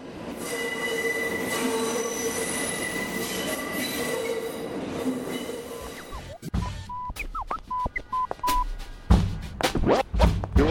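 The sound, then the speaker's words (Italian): A train rolls past on the High Line elevated railway in Manhattan with a loud, steady roar and high metallic wheel squeal for about six seconds, then cuts to sparse electronic beeps and sharp tonal chirps. “L'ultimo treno è passato nel 1980.”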